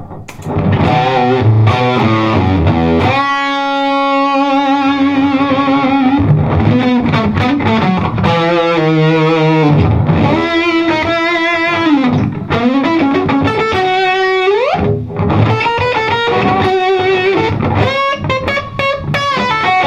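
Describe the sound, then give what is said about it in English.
An electric guitar on its bridge and P90 pickups plays a vintage-toned melodic line with a light overdrive, sustained singing notes and quick runs, loud and steady throughout with no voices. “So let's go bridge and P90 in the front, and we'll just try playing something a little bit more vintagey.”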